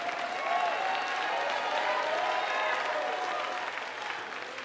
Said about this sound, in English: Put those anointed hands together. Give God a mighty hand clap and shout for the victory.